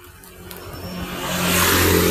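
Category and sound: vehicle, motorcycle passing by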